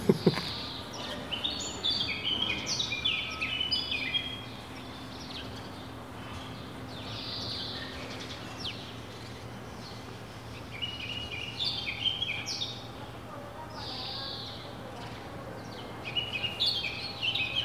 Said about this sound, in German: Ja, die Vögel sind schon sehr stark. Der Grundton des Spaziergangs, das Vogelgezwitscher.